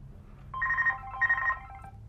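A landline telephone in a hallway rings in two short, buzzy bursts separated by a brief pause, fairly clear over a low background rumble, with no one speaking.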